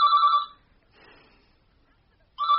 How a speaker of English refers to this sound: Answer the phone!